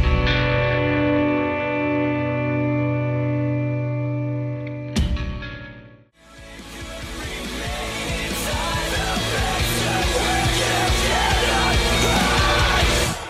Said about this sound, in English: But the song is called …. Newest single from ….